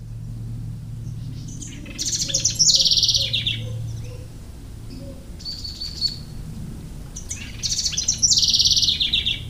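A bird calls over and over in bright, high-pitched bursts of rapid chirps, three clusters separated by brief pauses, fairly loud above a low, steady background hum.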